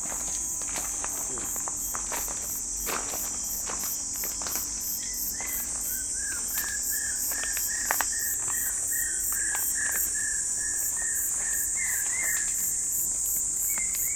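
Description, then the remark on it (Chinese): A steady, high-pitched insect chirping, likely a katydid, pulses continuously at night, with a thin trill joining midway and occasional soft rustles or footsteps. “这个应该是中丝的声音。”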